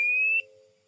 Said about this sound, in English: Okay. This is the one that I found. It's going to get loud. Sounds like a dial tone right now.